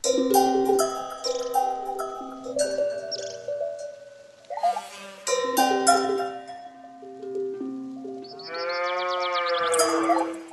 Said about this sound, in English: cows and cowbells and the sound of birds taking flight, and he actually starts conducting what is, I gather, called the Wood Symphony. Let's hear a bit of that. There's that theme, a little byplay between the cow and the cowbell.